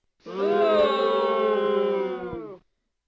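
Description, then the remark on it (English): A loud crowd cheer sound effect played by hitting a cheer button, a sustained roar of many voices holding steady for about two and a half seconds before cutting off abruptly. “I'm hitting the cheer button. That just keeps playing.”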